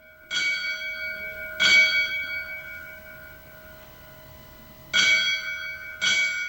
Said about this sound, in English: Worcester Fire Lieutenant Jason Menard was laid to rest this morning after funeral services at St. John's Catholic Church. They rang bells as a symbol of his last alarm.